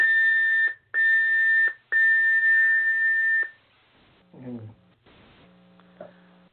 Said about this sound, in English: Your beep. Yeah. So you got 2 minutes.